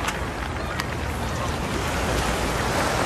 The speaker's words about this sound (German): Man ist hier direkt am Wasser, das hört man, das hat was sehr Entspanntes, dazu eben dieser geniale Blick rüber.